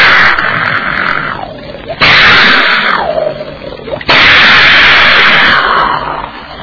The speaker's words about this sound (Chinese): 打令，点炮，点炮，咚！